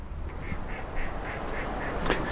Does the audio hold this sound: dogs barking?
no